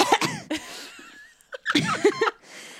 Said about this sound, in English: Oh, oof, or you coughed. You coughed as I was giving it to you.